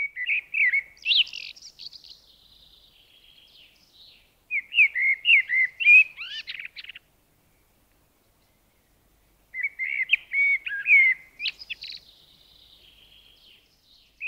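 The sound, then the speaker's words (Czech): A common blackbird sings alone in three separate phrases of mellow, fluting notes, each ending in a higher twittering flourish, with short pauses of silence between them. Clear. “Zpěv kosa můžeme slyšet od brzkého jara až do léta.”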